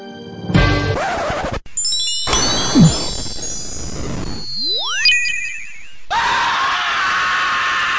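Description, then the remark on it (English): A person lets out a loud, drawn-out scream that tangles into a chaotic run of squeals, sweeping whistles and harsh noisy bursts, filling about eight seconds with no talking. “And I can even do the scream.”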